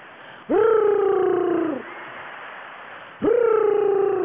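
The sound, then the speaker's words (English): A woman imitates a pigeon's coo over the phone: two drawn-out, throaty hums that slide downward, the first lasting over a second and the second starting after a pause, with a muffled, phone-like tone. “Tell a bitch sitting next to you that's making pigeon noise in the phone, when I see her, I'ma beat her ass.”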